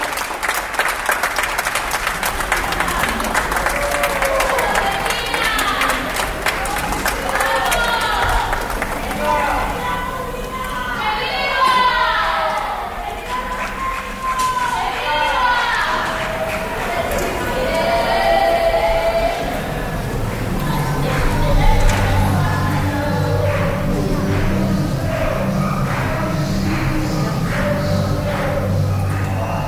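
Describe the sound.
Scattered applause from many people some distance away, with distant shouting voices rising and falling over it, continuing steadily throughout with low rumbling background noise.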